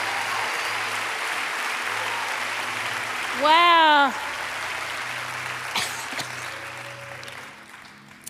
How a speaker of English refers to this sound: Clap your hands and thank God for what he's done.